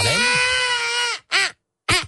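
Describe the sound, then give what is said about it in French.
A voice imitates a crying baby: one long, strained wail lasting over a second, then two short, sharp sobbing bursts after brief pauses, loud and harmonically rich. “Je fais bien le bébé qui pleure, vous avez remarqué?”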